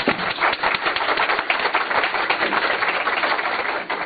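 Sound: audience applause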